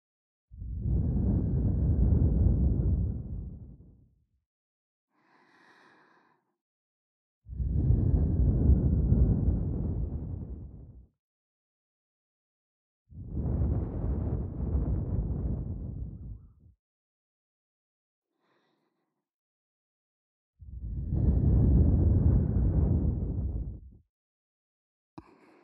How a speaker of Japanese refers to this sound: 気持ちいいっしょ。女の子の吐息、いっぱい堪能してね。